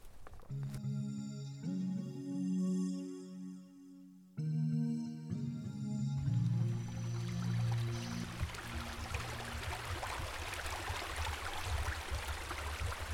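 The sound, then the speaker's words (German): A brief musical jingle gives way to steady babbling water spilling over a beaver dam on the Badenitzer Fließ stream near Badenitz, a continuous rushing and splashing that fills the second half without any voices. “Ihr hört es schon plätschern, wir sind also jetzt angekommen am Biberdamm, und zwar bei Badenitz.”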